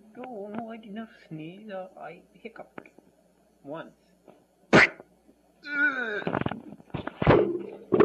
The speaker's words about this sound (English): No, I didn't sneeze. I hiccuped. Once.